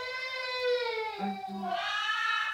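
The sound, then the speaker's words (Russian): A car alarm wails with a steady, harmonically rich siren tone that glides slowly down, dips with a brief low buzzing pulse, then rises again, loud and continuous throughout. “Это когда одна машина зазвенела, все начинают.”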